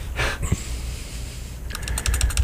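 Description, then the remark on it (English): Quick, clicky keystrokes on a computer keyboard as a DJ types to bring up a recording, a short burst early on and then a faster run of taps near the end, fairly clear over a low background hum. “All right, you can hear the typing here as the DJ tries to bring this right up here.”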